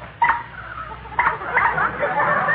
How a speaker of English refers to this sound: And listen to this horn.